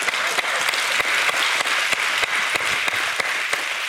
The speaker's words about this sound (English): Give them some claps.